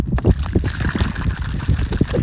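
Sea waves at the Robinson Club Chamyuva rushing in a steady, unbroken wash, with low churning surges rising and falling underneath a bright hiss. No one speaks.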